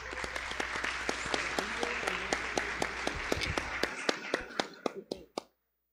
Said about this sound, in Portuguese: Receba a vereadora com a salva de palmas.